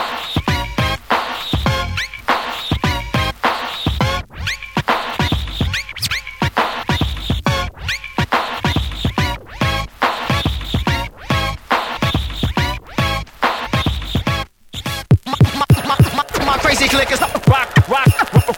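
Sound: DJ turntable scratching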